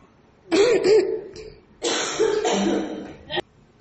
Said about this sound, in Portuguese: Porra, que pigarro, véi.